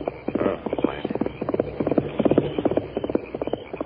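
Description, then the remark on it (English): Rapid, steady clip-clop of hooves as banker Parsons gallops his horse past along a trail in a hurry, heading for Sagebrush, the rhythmic beats loud and continuous throughout with no one speaking. “It was Parsons, banker Parsons, riding his horse in a hurry.”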